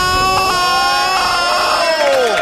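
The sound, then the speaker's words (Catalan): A crowd cheers loudly and steadily for the rain, many voices shouting and whooping together in a sustained roar, with one voice sliding downward near the end; clapping is not distinct beneath the cheers. “Aplaudiments. Aplaudiments a la pluja.”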